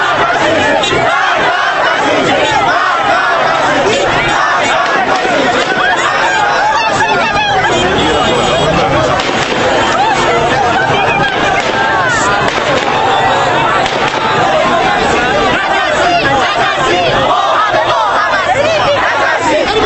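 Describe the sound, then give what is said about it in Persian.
An angry crowd of protesters chants and shouts slogans during a clash with riot forces after an election, with shots being fired at them. It is a dense, loud wall of many voices that stays steady and unbroken throughout, with no single speaker standing out. “صدای شعارهای مردم خشمگین با صدای تیرهایی که به سمت آنان شلیک می شود در هم می آمیزد.”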